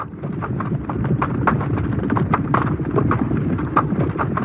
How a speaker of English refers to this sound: So as they go through or over, hopefully, the hurdle, you actually fade this up. And if you're clever at it, you vary the level a little bit so it sounds like several horses going through together.